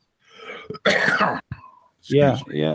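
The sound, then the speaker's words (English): A rough, breathy cough followed by a short sharp one, then a couple of voiced, rumbling throat clears. Fairly loud, with no speech over it. “I can't shake the cough this evening for some reason.”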